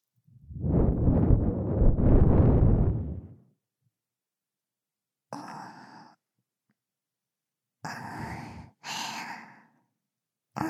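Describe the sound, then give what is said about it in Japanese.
Breathing right against the microphone: a long, loud sighing exhale, then a pause and several shorter, breathy airy puffs spaced apart, with no talking. “私の呼吸、そんなに興奮しますか？”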